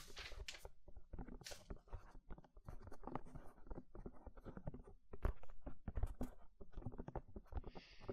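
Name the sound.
pencil scribbling on paper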